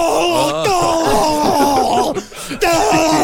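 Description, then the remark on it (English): A man loudly imitates the wild scream of Rasputin as he was shot and fell, an agonized dying scream: a sustained, wavering groan-like wail lasting about three seconds with a brief break near the end, intense. “Rasputin fell with what Felix called a wild scream and collapsed on the bearskin rug, quote, like a broken doll.”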